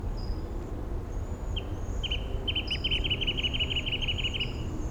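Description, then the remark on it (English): A wrentit sings a series of short, bright notes that quicken into a rapid, even trill, heard over a steady low rumble with faint high bird notes drifting above. “Five seven with a wren tit in the background.”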